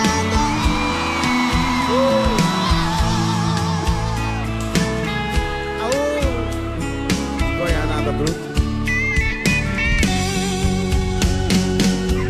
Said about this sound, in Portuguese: E o grito dos apaixonados.